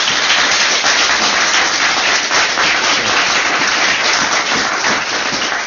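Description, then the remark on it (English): Loud, sustained applause from a crowd for the coaches at the Sandy Hill Special Briefing Course on the 16th of January, a dense wash of many hands clapping steadily at an even level for several seconds without pause. “Well, let's give all those coaches some applause, huh?”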